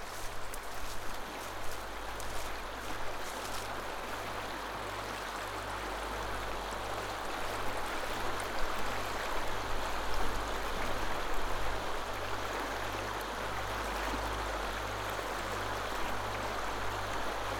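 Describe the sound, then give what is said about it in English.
A mountain stream tumbles steadily over rocks in a continuous, even wash of water noise, with a faint low hum underneath and no voices. “One is from the mountains, tumbling through rocks, cleansing.”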